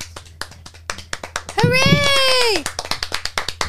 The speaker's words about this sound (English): Clapping for ourselves now. Is that the regular thing?